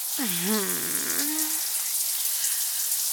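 Shower water runs in a steady hiss throughout, with a brief wordless voice rising and falling over it near the start before the water continues alone.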